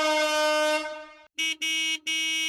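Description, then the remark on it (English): A long, loud blast from the priests' horns at the walls of Jericho, steady and brassy in pitch, fades out, then three short, sharp honks follow in quick succession, with no voices present. “Then, from the horns of the priests came a loud and long blast.”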